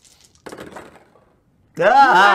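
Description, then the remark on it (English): A brief, quiet clatter of dice tumbling across a table for a stealth roll in a game, followed by a person's loud vocal outburst. “I grabbed the wrong dice, guys.”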